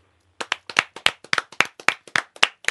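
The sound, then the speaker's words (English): A small audience claps after a brief silence, sharp distinct hand claps arriving in a quick, slightly uneven patter for a couple of seconds, with no voices. “You guys, I love the sincerity of your claps.”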